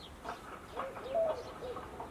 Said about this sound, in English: this particular type of turtle dove is found only in the near and the Middle East